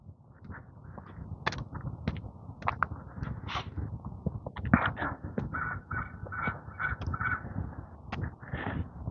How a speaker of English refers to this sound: Crow sitting on the peak of a roof over here. He has words this morning. I'm not sure what those words mean, but he has them. Don't know if that's a territorial call or call to breakfast.